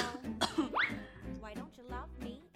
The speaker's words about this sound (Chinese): 我装模作样的点点头，然后再故意咳嗽2次。